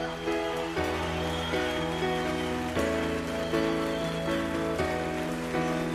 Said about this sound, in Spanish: Ya sé que pido muchos, pero por favor un fuerte, fuerte aplauso para la sección de coros de la orquesta.